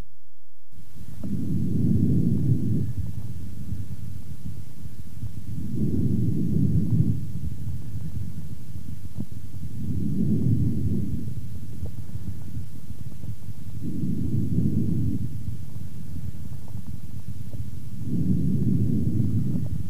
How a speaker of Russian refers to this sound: Таким образом, ларинготрахеальное дыхание представляет собой более грубый по тембру и высокочастотный шум, причем продолжительность выдоха превышает длину вдоха.